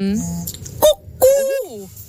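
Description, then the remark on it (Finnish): A human voice mimics a cuckoo call with two sung notes, a short one followed by a longer, bending one, fairly loud over faint background noise. “Terhakka käki.”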